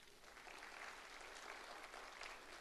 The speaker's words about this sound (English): Clap your hands right there.